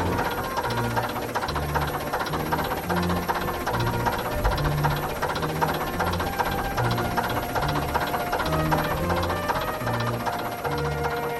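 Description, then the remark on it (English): An old bus engine idles unevenly while cold, its deep rumble pulsing in a lumpy, irregular rhythm with a steady rattling, hissing mechanical clatter over the top. No one speaks. “It's just a bit lumpy when it's cold. And when they were running them to the bus stations, did they have to leave them run for a while to warm up?”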